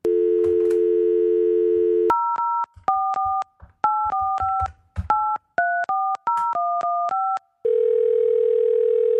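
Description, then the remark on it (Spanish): A steady telephone dial tone gives way to a quick run of beeping keypad tones as a number is dialed, followed by another steady line tone of an outgoing call. No one speaks. “Pero ya, vamos a llamarle ahora.”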